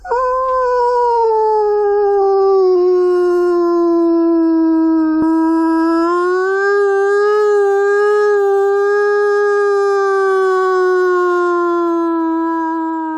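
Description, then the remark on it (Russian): A person imitates a wolf's howl as a calling howl (vaba): one long, loud, steady wailing note held for about thirteen seconds, rising and falling slightly in pitch with no other sounds around it. “Ваба – это вой, когда человек имитирует звук.”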